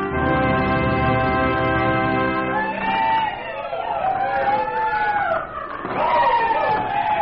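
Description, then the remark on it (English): A steady, sustained musical tone holds for a few seconds, then a crowd riding the roller coaster at Wonderland Park, on Island Park in the Arkansas River in Wichita, breaks into loud, joyous shouts and whoops that swoop up and down in pitch. “Out of the past, the joyous shouts of Happy Wichita, thrilling to the wonders of the roller coaster.”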